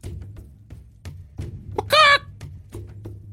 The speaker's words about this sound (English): Down at your feet, you see a small baby donkey with nubbins and a fighting chicken ready for combat at your side.